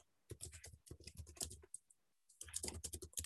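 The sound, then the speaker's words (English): Rapid typing on a computer keyboard as someone types a comment, a quick flurry of clicking keystrokes that pauses briefly and then resumes, fairly quiet, with no one speaking. “So I'm typing a comment about that.”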